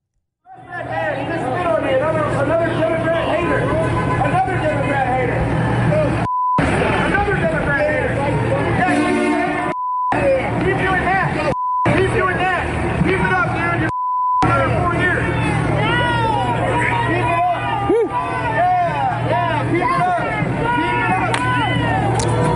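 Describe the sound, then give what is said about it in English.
A crowd of many voices in New York City shouts and jeers at Owen Shroyer as he drives around in a battle tank, voices over one another in a loud, continuous clamor, broken up by several short, steady bleep tones. “So for radio listeners as well, Owen Schroyer is driving around in that battle tank and all of these people are screaming at him and harassing him.”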